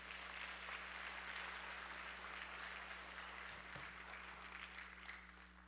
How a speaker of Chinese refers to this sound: 拍手将荣耀给神。